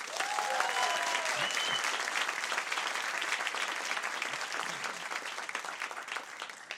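applause

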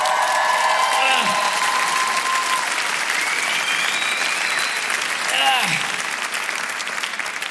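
audience applause and cheering

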